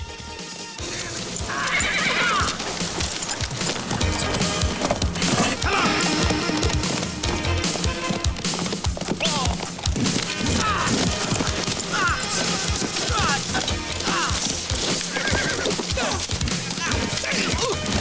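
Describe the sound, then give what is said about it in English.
A horse whinnies loudly as its rider struggles to control it, over the steady, rapid thud of galloping hooves as a group of riders charges across the landscape, kicking up dust; more hoofbeats and rustling movement fill the scene throughout, energetic. “Chavez is having trouble controlling his horse.”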